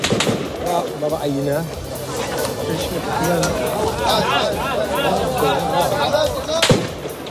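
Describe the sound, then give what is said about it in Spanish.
A pair of sharp gunshot cracks, one at the very start and another near the end, ring out over a crowd of agitated voices talking and shouting, as Israel's army fires at a group of diplomats from 24 countries visiting Jenin in the West Bank. “Los disparos que su ejército lanzó ayer contra un grupo de diplomáticos de 24 países, entre ellos España.”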